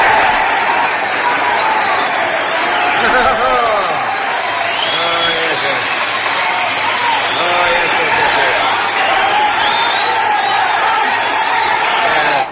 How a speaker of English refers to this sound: Now my applause, please.